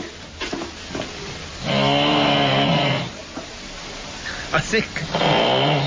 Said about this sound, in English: Because the winner actually is, and let's listen one last time. This is my mom snoring.